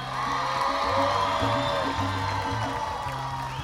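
A crowd cheers and applauds in a steady, dense roar of clapping and whoops, with a low rhythmic bass hum underneath.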